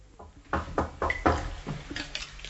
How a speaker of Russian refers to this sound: Слышь, Евсей, стучит кто-то. Да хоть кто ж в такую-то погоду тебе по хуторам шляться задумает. Точно стучат. Сходи, узнай, кто там.